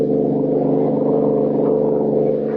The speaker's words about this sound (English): Finding Lois and the bill of sale missing, he and Kelly give chase in a high-powered car.